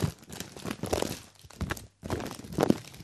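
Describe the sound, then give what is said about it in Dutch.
A bag of chips being opened: loud, irregular crinkling and tearing of plastic in several bursts, with a brief pause before a final rustling stretch. No one speaks. “Dus, chips.”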